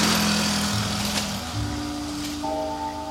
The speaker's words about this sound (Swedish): Och då har turen kommit fram till flakmoppen.